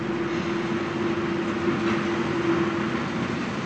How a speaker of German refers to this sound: Jetzt setzt der Lokführer den Zug in Bewegung.